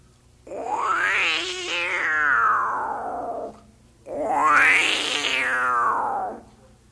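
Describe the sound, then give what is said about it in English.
Two long, loud wailing bobcat calls, each rising to a harsh screech then sliding down into a drawn-out moan, separated by a brief pause. No talking, with a low steady hum underneath. “Finally, have the wampus kitty or the bobcat.”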